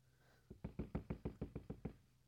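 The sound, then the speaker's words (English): A rapid series of about eight firm knocks on a door, evenly spaced and fairly loud, heard alone with a quiet background. “And then, was that the door?”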